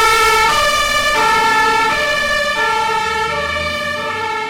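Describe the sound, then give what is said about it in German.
During an emergency exercise alarm at Waldweg in Werneck, near Schweinfurt, a loud two-tone emergency siren alternates steadily between a high and a low pitch, repeating every second or so, over a faint low engine rumble. “Beispiel Schweinfurt mit einem Übungsalarm, Werneck, Waldweg, Feuerkreis auf Waldüber, eine Person bewusstlos neben dem Fahrzeug.”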